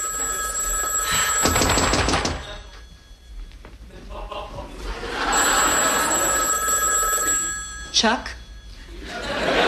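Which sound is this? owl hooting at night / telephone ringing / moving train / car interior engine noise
telephone ringing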